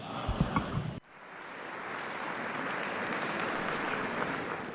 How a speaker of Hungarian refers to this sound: Kedves hallgatóink, a mai napon is tapssal köszönik meg Ferenc pápának a tanítását, az áldását.